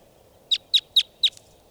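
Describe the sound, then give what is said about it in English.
A lone wild bird in flight gives four sharp, high-pitched call notes in quick, evenly spaced succession, followed by a fainter fifth, over a low, steady background rumble. “So, pointing out the wild bird. In flight. Lone bird.”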